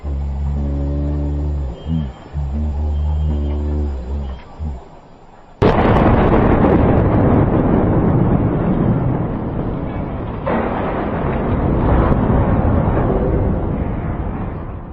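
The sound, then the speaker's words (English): A steady, low-pitched military truck engine drone is cut off by a sudden, massive roadside bomb explosion hitting the truck, followed by a long roar of rumbling and scattering debris that slowly tapers off. “I have no idea if he ended up surviving this blast.”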